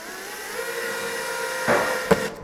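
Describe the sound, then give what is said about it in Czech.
A power drill whines steadily as children drive two screws through a rod into wood to hold a small wooden board with a basket, its pitch holding level before a couple of sharp knocks near the end, then the motor stops. “Tak, když jsou všechny dírky navrtané, tak hnedko vedle děti prošroubujou. Jo, prošroubujou. Skrz tyčku dva vruty, které budou držet dřevěnou destičku s košem.”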